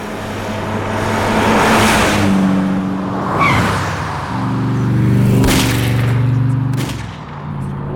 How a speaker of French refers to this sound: Je crois bien que c'était eux, ce qui vient de passer. Eh ben, entre un avion qui se crache et une décapotable qui se fait tirer dessus par des militaires, on croirait dans un film de Michael Bay.